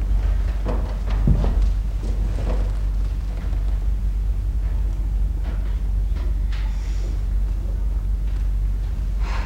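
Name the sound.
horse hooves clip-clopping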